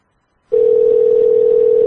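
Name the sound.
telephone dialing tones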